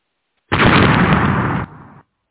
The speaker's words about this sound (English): Oh, did you guys see? I think there was just a car bombing.